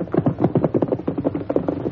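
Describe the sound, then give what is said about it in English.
A runaway riderless horse with no saddle gallops hard, its hooves pounding in a quick, steady drumming rhythm of clustered beats. The sound is loud and continuous, with no voices. “That doesn't sound like a horse with a rider. Huh? Listen, sounds almost like a runaway.”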